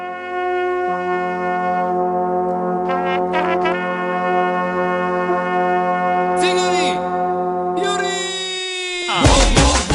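A loud, sustained hand horn blast with a rich, brassy buzz, holding steady tones for several seconds, shifting pitch partway through and ending in a harsh, noisy burst.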